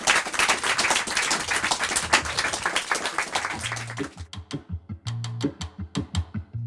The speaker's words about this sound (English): That is all we've got time for. Please give a very big round of applause for Katie Kitamura.